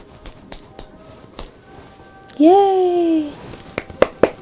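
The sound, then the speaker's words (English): A small boy claps a few times when his mother asks him to, soft and irregular single slaps scattered through the moment, with a brief high, drawn-out vocal sound from the child in the middle. “Can you clap? Clap.”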